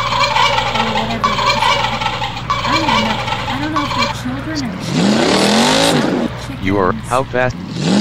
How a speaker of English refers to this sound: You are and there's chickens.